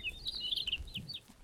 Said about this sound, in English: It's a Townsend's solitaire. Yeah, it's right in that cottonwood tree. It's a gray bird. It has faintly like highlighted wing bars. It's a type of thrush. Sometimes they make this really beautiful warbling call. Yeah.